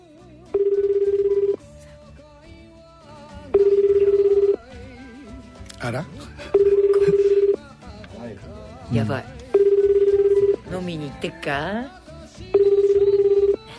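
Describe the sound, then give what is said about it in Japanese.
A phone ringback tone purrs five times, each steady one-second tone followed by a two-second pause, loud and clear, while people talk briefly in the gaps, as a radio show phones the Otona no Band Taisho grand prize winner unannounced on New Year's Eve. “はい、では電話かけてみましょう。”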